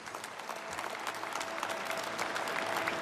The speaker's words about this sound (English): Applause for Dikembe Mutombo at the Basketball Hall of Fame.